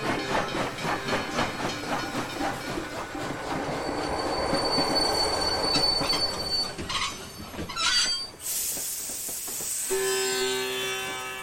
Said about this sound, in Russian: Бенгальцы согласились со словами Ачютананды, хотя и продолжали пускать дым ему в лицо все время, пока поезд с грохотом отчитывал последние километры до Калькутты.